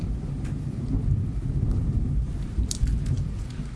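Low, rolling thunder rumbles steadily, a deep continuous growl with a slight swell near the end, accompanied by faint rain hiss.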